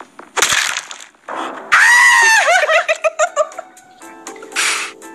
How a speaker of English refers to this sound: Oh, why are you screaming